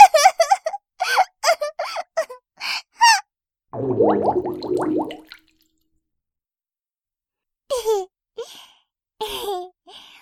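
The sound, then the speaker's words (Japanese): Breathless giggles and squeals break off for a low, buzzing fart, released while being tickled by an older brother after trying to hold it in, lasting about a second and a half, rumbling and sputtering, before a few more short gasps and giggles follow. “おなら、出ちゃった。だって、お兄がくすぐるんだもん。”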